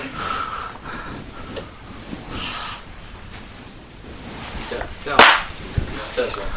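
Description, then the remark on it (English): A single sharp, abrupt cough bursts out, standing out loudly against a low, steady background hum with faint noise around it. “That's a cough, yeah.”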